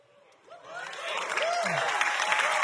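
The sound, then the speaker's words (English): Audience applause swells in after half a second and holds steady as a dense, broad clatter of clapping, with a few scattered voices and whoops rising over it. “That's about the right amount of applause.”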